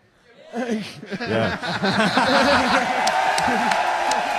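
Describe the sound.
A crowd of many voices cheers and laughs together, rising quickly after a quiet start and holding a loud, steady roar of overlapping shouts and chuckles until the end.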